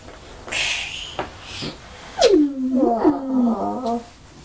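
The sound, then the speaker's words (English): A single tiger roar, a drawn-out, moaning growl that slides downward in pitch over about two seconds, moderately loud, preceded by faint rustling noise. “Tiger.”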